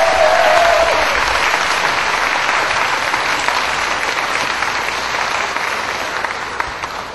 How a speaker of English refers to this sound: Also, more applause for … quintet.